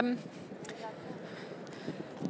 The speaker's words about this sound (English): And it's now also windy.